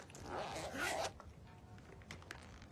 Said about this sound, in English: She stares at it, drops it back into the pouch, and zips it shut.